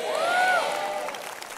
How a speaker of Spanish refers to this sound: Dense un grito y un aplauso que yo pueda creer y que otros en Houston puedan creer.